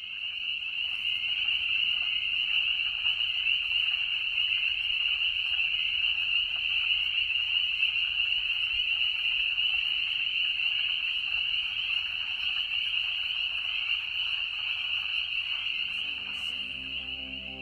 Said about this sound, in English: You've been listening to Frogs Chorusing at Lake Griffey, May 2021.